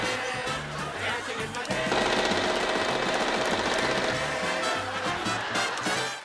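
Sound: machine gun fire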